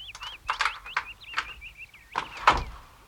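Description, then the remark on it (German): A key rattles and clicks as it is turned in a lock, followed by a door creaking open with a few dull clunks, fairly quiet, with a thin squeaky whine threading through. “Dreh den Schlüssel herum, dann öffnet sich die Tür.”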